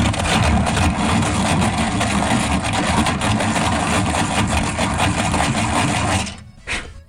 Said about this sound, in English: Congratulations, if you knew we were looking for the pencil sharpener. After hearing the sound, it's sometimes good to hear it again.